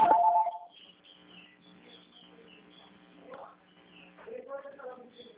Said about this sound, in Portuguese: Espera um minutinho que tá tocando o telefone. Espera aí.